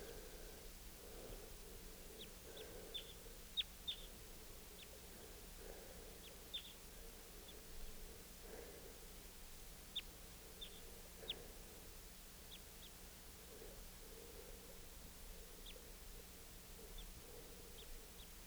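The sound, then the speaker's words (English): Two wild birds, a male and a female, trade short, high-pitched calls back and forth, sharp chirps scattered irregularly over a quiet, steady outdoor hiss. The calls sound soft, and no one speaks. “Recording that male again and the female responding.”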